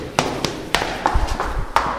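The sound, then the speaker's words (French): Quick footsteps of a barely dressed woman running late thump down a staircase, a run of sharp taps and heavier thuds in an uneven, hurried rhythm, fairly loud, with no voices. “À peine habillée, je dévale les escaliers.”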